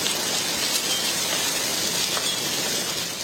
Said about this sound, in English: It is hailing in Fort Worth, Texas, as severe thunderstorms move through North Texas and parts of Oklahoma tonight.